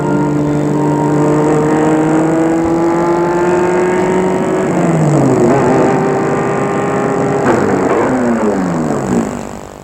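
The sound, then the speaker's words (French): A car drives slowly through narrow, poorly lit streets in Paris, its engine humming steadily, then easing down and revving again with shifting pitch before fading at the end. No one speaks. “Elle a arrêté sa voiture dans une de ces rues étroites, presque pas éclairées, pavées, pleines de détritus à terre, sentant l'urine, poubelles débordant, encombrant sur les trottoirs.”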